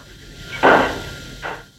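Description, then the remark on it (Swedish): A single sharp gunshot crack, thin and tinny as if coming over a telephone line, followed moments later by a fainter, shorter knock against a quiet background hiss; terrorists in Stockholm shooting a West German trade attaché during a phone call with a German government official in the evening. “Då hörs ett skott genom telefonluren.”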